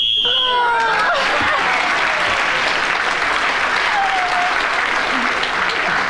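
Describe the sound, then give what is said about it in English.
A short, shrill whistle blast ending a round of a panel game while Clement Freud was speaking sounds at the very start and is quickly swallowed by loud, sustained applause from a crowd that carries on to the end. “As Clement Freud was speaking when the whistle went then, he gets the extra point”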